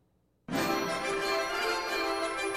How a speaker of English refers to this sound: Hit that bell